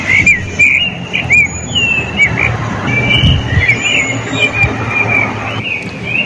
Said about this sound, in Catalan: És un ocell. Un pardalet. És un pardalet. Bueno, tots coincidim, no?, en identificar el cant d'un ocell, però de quin ocell es tracta? Quin significat té aquest cant de ritme repetitiu?